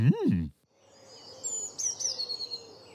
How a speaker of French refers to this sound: Oh, tu entends cet oiseau? Comment il s'appelle? Il y a beaucoup d'oiseaux dans le jardin. Écoute. Ah, ça, c'est une mésange.